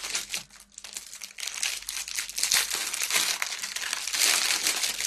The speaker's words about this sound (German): Knisterfolie. Hör auf damit!